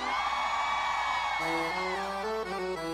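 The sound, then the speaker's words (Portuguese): A crowd of forró fans shouts and whoops loudly together in a dense, sustained roar, and partway through, steady musical tones begin to rise beneath the cheering. “Quem é forrozeiro, dá um gritão pra mim aí!”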